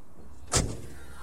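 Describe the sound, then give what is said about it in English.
The door of another car shuts with one solid thump that rings briefly and fades, at sunrise in California, set against a quiet background with no one speaking. “I hear the other car door open and close.”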